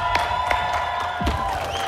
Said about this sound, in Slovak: Prosím vás, veľká legenda, Marián Slávka, obrovský potlesk.